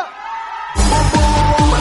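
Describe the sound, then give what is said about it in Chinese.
After a brief quiet moment, a crowd at a live event, urged on by a host, suddenly bursts into loud, sustained screaming and cheering, many voices whooping and yelling together until the end. “双手举高，让我们一起来挥挥手，尖叫一次！”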